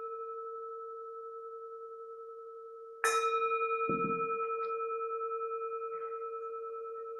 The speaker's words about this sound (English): and follow the sound of the bell as far as you can. And while listening to the fading of the bell, allow the muscles of your body to relax.